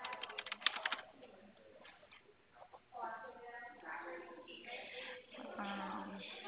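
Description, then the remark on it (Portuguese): Rapid keyboard typing of a WhatsApp message to someone, a quick burst of light clicks at the start, followed by muffled voices talking as a few faint taps continue underneath. “Tô mandando aqui mensagem pra você que eu tô digitando.”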